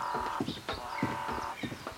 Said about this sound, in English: Birdsong and the sounds of insects surround you immediately. This is a very lively place.